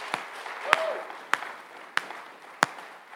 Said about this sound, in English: Well, I think our actors and musicians need a great round of applause.